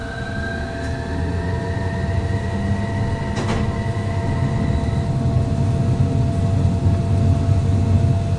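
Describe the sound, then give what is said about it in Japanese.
A Tokyu Setagaya Line tram departs and rumbles steadily along the rails with low mechanical droning and tonal motor whine that shifts pitch, plus a brief metallic clatter midway, with no talking. “大阪行き、まもなく発車いたします。”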